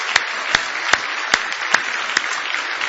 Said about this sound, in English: Now give him another big hand clap of praise if you love him with all your heart.